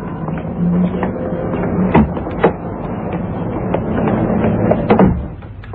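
A watchmaker's shop door opens and later swings shut, with a few sharp clunks and rattles of the handle over a steady low background hum; no one speaks.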